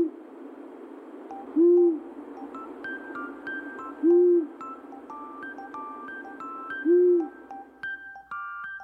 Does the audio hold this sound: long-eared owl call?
yes